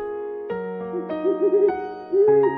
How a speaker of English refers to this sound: it's Polly, our owl. She's flying in with the fun facts.